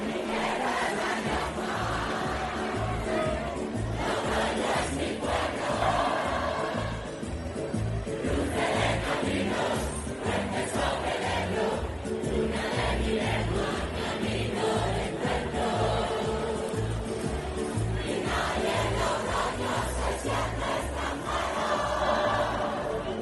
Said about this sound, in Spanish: San Mateo está ya en marcha y Logroño canta su himno a voz en grito. Esto sucedía segundos después de ese disparo del cohete.